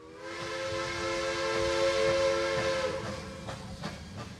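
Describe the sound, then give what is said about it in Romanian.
A train rumbles steadily along the rails, a long, sustained whistle sounding over it for about three seconds before fading, followed by faint rhythmic clacks of wheels. “V-a luat pe toți trei și v-a dus cu trenul să-l vedeți.”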